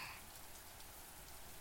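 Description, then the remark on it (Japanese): Steady rain falls outside, a soft continuous hiss of drops spattering on surfaces, fairly quiet and even throughout with no voices present. “雨止みませんね。”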